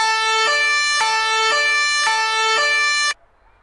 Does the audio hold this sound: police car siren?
yes